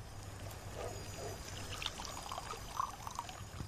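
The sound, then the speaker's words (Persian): Juice pours steadily into a glass for a few seconds, a soft continuous trickle with small splashy bursts, fairly quiet, with no one talking. “آب میوه؟ بله.”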